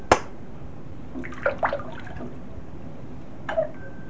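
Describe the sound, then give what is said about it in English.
Soapy water splashes in a bathtub as someone bathes, a sharp splash first, then a few smaller irregular sloshes and drips separated by quiet pauses, with no one talking. “Now you're in your bath. Are you drinking your bath water?”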